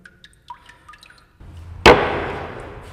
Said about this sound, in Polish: A nazwa tego papieru związana jest ze sposobem jego produkcji, bo do pracy potrzebne jest sito z ramką. Zanurzam sitko. Wyciągam w pozycji poziomej. Czekamy chwilkę, aż woda spłynie.